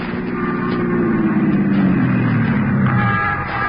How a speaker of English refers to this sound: He climbed into a squad car and hurried back to Barbara Carroll's apartment, where Jack Olson lived as a boy.